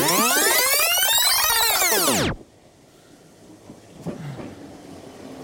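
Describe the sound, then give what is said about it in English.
An underground train pulls in with a loud, rising-then-falling metallic screech of wheels and brakes for about two seconds, then cuts off abruptly, leaving a low rumble and a few faint clunks. “Ladies and gentlemen, the next northbound train will be an Edgware train via Bank.”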